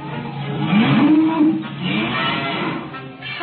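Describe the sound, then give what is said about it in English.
A single low, drawn-out moo from Bossy the cow rises and holds briefly, heard against the steady rushing wind of a cyclone that continues after the call fades. “And Uncle Henry Pepper. Bossy! Bossy!”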